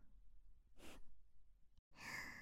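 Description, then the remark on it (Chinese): Heavy breathing: a sharp breathy huff, a short pause, then a longer, stronger exhale with airy hiss, quiet overall and with no talking. “呼吸声越来越重”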